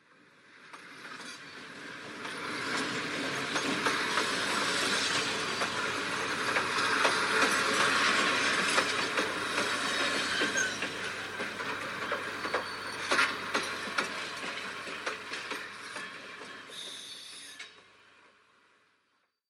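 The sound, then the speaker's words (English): A train runs along railway tracks with a steady rumble and rhythmic clickety-clack, swelling up from quiet, holding loud for a long stretch, then fading out. No voices. “We take a look at the celebrations that are happening in Norfolk to mark the 200th anniversary of the modern railway.”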